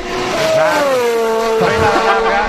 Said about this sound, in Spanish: Así suena el Mercedes de Fórmula 1. El nuevo.